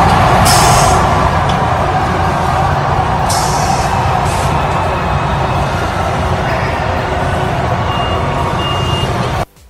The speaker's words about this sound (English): And I just want to get your guys' opinion, because this tweet came out yesterday from Taylor McGregor, and she's over at Wrigley Field. And the Cubs were testing out crowd noise yesterday. And just listen to this and let me know what you think.